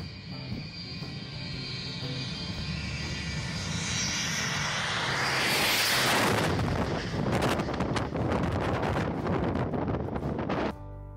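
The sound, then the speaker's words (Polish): A low-flying airplane struggling to take off from an airport roars overhead, gaining height at the last moment, its engine noise swelling to a loud, rushing peak around the middle before thinning out, with gusts of wind buffeting the microphone. “Jednak najciekawsze są te nagrania, w których ich samoloty miały problem ze startem i nabierały wysokość w ostatniej chwili, niemal zahaczając o ogrodzenie lotniska.”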